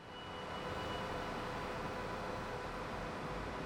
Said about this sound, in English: White noise? No. It may even sound like an air conditioner, but the subtle sound, almost static-like, emerges from a system with the ability to store 250 kilowatts of clean, renewable energy.